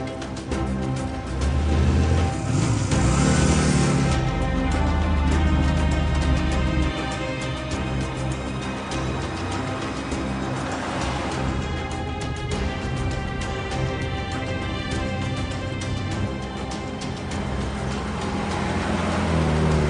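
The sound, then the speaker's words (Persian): A car engine hums steadily throughout as the vehicle drives off after a person who has just got into a car, a continuous, fairly loud rumble with a swell near the start and no one speaking. “سوار ماشین شد، میریم دنبالش.”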